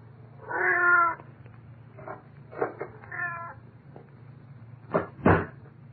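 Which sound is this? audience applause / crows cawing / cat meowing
cat meowing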